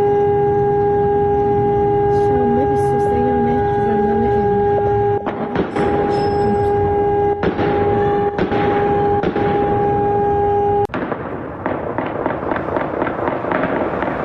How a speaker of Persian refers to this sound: شامگاه شنبه ویدیوهایی در شبکه‌های اجتماعی منتشر شد که نشان می‌داد زندان اوین دوچار آتش‌سوزی گسترده‌ای شده و همچنین در این ویدیوها صدای چندین انفجار و تیراندازی‌های پیاپی نیز شنیده می‌شد.